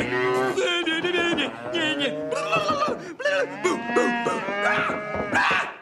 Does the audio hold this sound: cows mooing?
yes